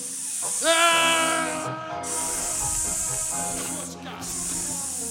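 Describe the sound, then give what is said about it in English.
Helium escapes from a balloon punctured on a sharp part of a capsule in a steady, loud high-pitched hiss, joined after a moment by a wavering, reedy squeal that holds and shifts slightly in pitch for several seconds. “Balloon hit sharp part of your capsule. I leaked the helium.”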